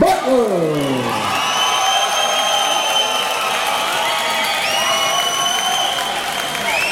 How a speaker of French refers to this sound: Puis ça hurle pas mal autour de nous lorsque les boxeurs s'avancent vers le ring.